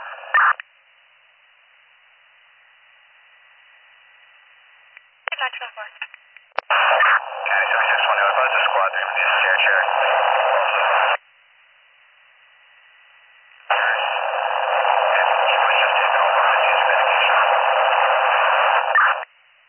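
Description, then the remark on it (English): Garbled two-way radio transmissions come through in long, loud bursts of harsh static, a muffled voice buried in the noise, separated by stretches of faint hiss. “You are all static.”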